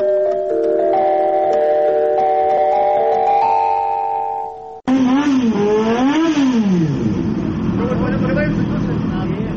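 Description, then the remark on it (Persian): A steady droning tone for several seconds, then a loud engine revs up and down repeatedly, its pitch swooping like a motorcycle throttle being worked. “گروهی از جوانان تاجیک نیت دارند که با موتورسیکل در راههای ایالات متحده آمریکا 10,000 کیلومتر را طی نمایند.”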